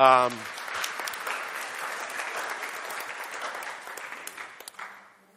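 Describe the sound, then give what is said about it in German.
An audience claps steadily for two participants for several seconds, a dense patter of many hands that gradually thins and fades out, with a brief voice at the very start. “Kleiner Applaus für die zwei.”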